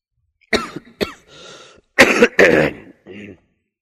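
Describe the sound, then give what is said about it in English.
A run of harsh coughs: two quick sharp bursts, a raspy throat-clearing rumble, then two louder, heavier hacking coughs and a final softer clearing of the throat. “Very sorry, you know, I'm developed with this cough.”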